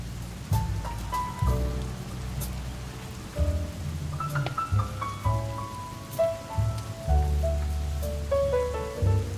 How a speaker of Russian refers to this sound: Опустел летний сквер, и скамейки грустят в непогоду, но в безлюдье кромешно. Только дождик смеялся украдкой, смутьян, старый дом обижая безгрешно.